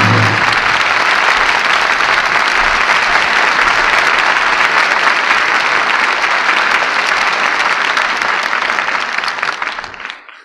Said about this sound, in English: Wagons move on, the cannon are silenced, as the curtain falls on Jezebel. And we all join in applauding the artists who brought us this play tonight. Loretta Young, Brian Dunleavy, and Jeffrey Lynn.